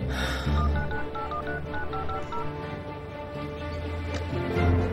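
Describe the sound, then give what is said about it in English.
A woman dials her phone: a quick string of telephone dialing tones, about eight short keypad beeps in rapid succession over a low, steady background rumble, with no voices. “She dials her phone.”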